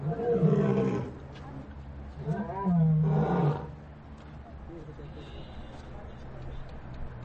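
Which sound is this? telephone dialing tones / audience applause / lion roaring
lion roaring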